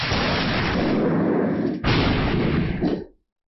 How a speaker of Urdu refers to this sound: بجلی کا چمکنا, بادلوں کا گرجنا اور آسمانی بجلی کا گرنا قدرت کی نشانیوں میں سے ایک نشانی ہے.